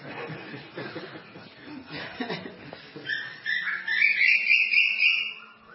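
A cuckoo calls using only one or two notes, a loud, rising whistled note that swells for a couple of seconds, following a stretch of muffled, rustling background noise.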